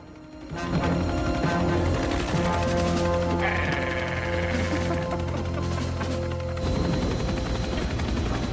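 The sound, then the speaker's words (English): Helicopters hover loudly over a wrecked transport plane on an airstrip, rotors thumping steadily in a dense roar, before they move off up the airstrip and the sound pulls away. No one speaks. “Billy presses up against the inner belly of the transporter as the choppers hover over it.”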